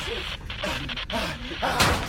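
Eckhart's handheld radio is slammed down once with a sharp, hard knock near the end, over a busy background of muffled voices and noise.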